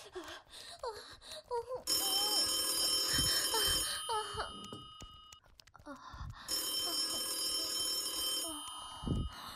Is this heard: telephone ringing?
yes